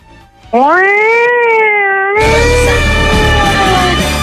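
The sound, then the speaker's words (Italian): A voice imitates a police siren with a loud, sustained wailing tone that rises and holds steady, then gives way to a burst of harsh, noisy sound for the final two seconds. “Molto bene, metti la sirena, fammi sati!”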